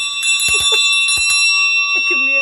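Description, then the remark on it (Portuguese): A hand bell is rung loudly at a workplace to celebrate a signed property deed, clanging several times in quick, uneven shakes while its bright metallic tone keeps ringing and sustaining between strikes. “Portanto, hoje tenho direito de tocar o sino porque tive escritura na quinta e não toquei, tive escritura na sexta e não toquei, tive ontem CPCB e não toquei.”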